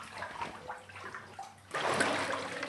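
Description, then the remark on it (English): Water sloshing and splashing in a bathtub in the grounds of a Maharaja's palace overlooking the Ganges River valley in India, with a softer, uneven stretch of movement before a louder, steady rush of water takes over for the final second. “Well, this is the way to view the Ganges River, lying in a bathtub, looking out of a window in the grounds of a Maharaja's palace.”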